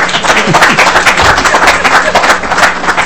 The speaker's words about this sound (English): you're worth a round of applause.